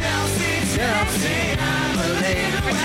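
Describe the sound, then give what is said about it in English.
A loud, dense rock song plays on its own, with a driving distorted guitar riff over thumping drums, steady and full for the few seconds heard. “These songs, you just hear the bit of the riff at the start”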